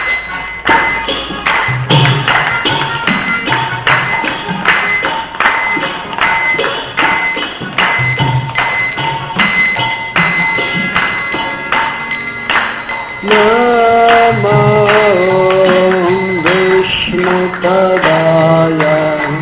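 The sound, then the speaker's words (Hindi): Steady, rhythmic hand clapping by everyone present, offered as devotional service, keeps an even beat throughout, and partway through a group of voices joins in with a melodic devotional chant over the claps. “सभी हाथों से तालियों का सेवा करते हैं।”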